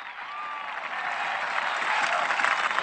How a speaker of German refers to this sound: Ihm wollen wir von ganzem Herzen danken. Und richten wir ihm nun einen Gruß und einen Applaus eben an Benedikt dem 16.